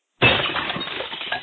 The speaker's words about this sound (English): Somebody break a window, yes. Or we're breaking glass. Breaking glass, you know.